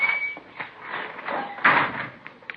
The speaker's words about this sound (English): Oh, yeah, got to shove that door hard. Sticks a little. Yeah, I'll get it.